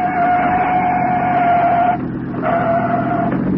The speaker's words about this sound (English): It's a police car.